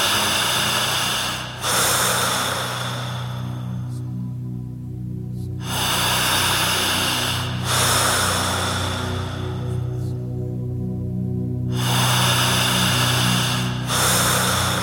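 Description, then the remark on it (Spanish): Slow, deep breaths, roughly three long airy inhale-and-exhale cycles at an unhurried, even pace over a low, steady background drone. “Concéntrese en esta respiración.”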